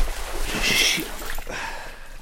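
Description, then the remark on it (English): A sudden splash as a foot plunges into a hole filled with black water in a flooded front yard, filling a boot, followed by a softer slosh a moment later, over a low steady outdoor background. “That was a hole. Now the black water is in my boot.”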